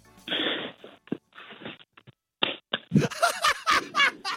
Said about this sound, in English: He's not naked, he's completely starkers. Can you just slap your buttocks?